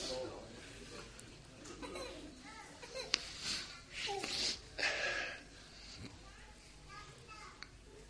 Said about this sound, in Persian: بذار از همین بچگی تو وادی امام حسین گریه کنه، بذار اشکش اینجا بریزه.